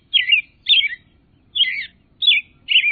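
Five bright, warbling American robin calls ring out one after another at an even pace, clear, with a faint low background hum and no voices.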